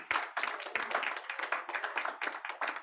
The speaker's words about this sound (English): Oh, I think it's a good place to clap.